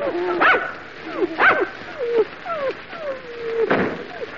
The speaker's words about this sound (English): We got to get away from these dogs.